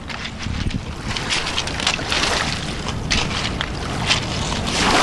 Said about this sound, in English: that is, a thin strip of pebbly shore in the centre of London, beside the Thames.